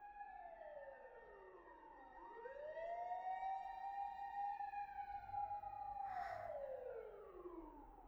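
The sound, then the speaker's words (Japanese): Fire engine sirens wail in long rising and falling sweeps, overlapping one another, fairly loud and steady over several seconds, with a faint rumble of traffic underneath and no talking. The fire engines are heading up a mountain to a fire there. “外、うるさいね。さっきからずっとサイレンが鳴りっぱなしだ。あの消防車たちはね、山の上に向かってるんだよ。”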